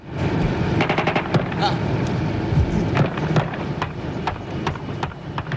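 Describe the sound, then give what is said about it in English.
Gunfire in a gun battle that started as two guerrillas walked back from inspecting a jet: irregular volleys of sharp, cracking shots, some in quick bursts, ringing out over a constant rumbling, windy wash of noise that never lets up. “And as they walked back, the firing started.”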